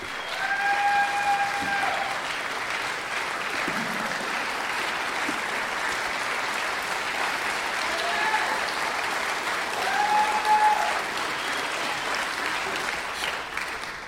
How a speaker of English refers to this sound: Everybody, please give a huge round of applause for my good friend